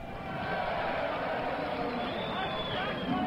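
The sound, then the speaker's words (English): A dense, steady roar of several race car engines firing up together on the start-up command before the Trenton 150 race at Trenton, a loud buzzing rumble with faint whining tones rising through it for the whole few seconds. “And promoter Sam Nunes gives the command to start up.”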